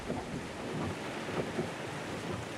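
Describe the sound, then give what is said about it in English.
Steady, dense hiss of heavy driving rain pouring down during a slow car journey, windshield wipers working at full speed, with a low rumble of thunder rolling underneath throughout; fairly loud and continuous, no voices. “It was slow going in the driving rain, the windshield wipers working at full speed.”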